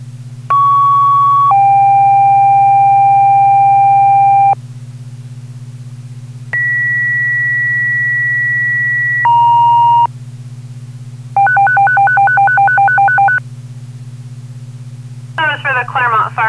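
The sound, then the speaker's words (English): A Claremont Fire Department general alarm dispatch tone for a barn fire at the McLaughlin Farm on Sugar River Drive off Chestnut Street, toned at 1712: long steady electronic tones stepping between pitches, then a rapid pulsing tone and a brief warble, all loud over a constant low radio hum. “Can I have a general alarm tone, please?”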